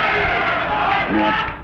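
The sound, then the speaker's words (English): A crowd cheers and yells together in a dense, steady, loud roar, with overlapping voices shouting encouragement to a man for under two seconds. “Cheer for the guy. Come on, give him some support.”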